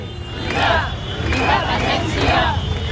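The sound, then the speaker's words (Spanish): A large crowd chants in unison, voices rising in three rhythmic swells about a second apart over a steady low rumble of massed noise. “La manifestación independentista de ayer por la diada que, en Barcelona, apenas reunió a unas 28.000 personas según la Guardia Urbana, es la cifra de asistentes más baja desde 2012.”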